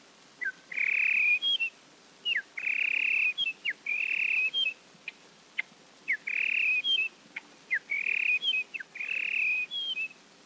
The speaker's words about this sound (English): Red-winged blackbird.